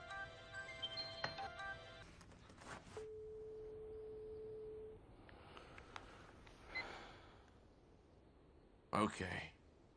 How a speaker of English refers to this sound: Okay. Please pick up the phone already.